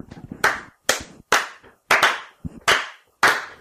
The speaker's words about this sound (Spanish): Señoras y señores, un aplauso.